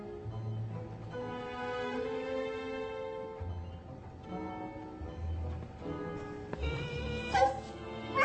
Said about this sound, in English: You were a very bad dog. Are you going to be a good boy?